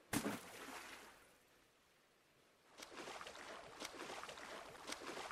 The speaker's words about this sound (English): It's only a fishing boat. How far can she go?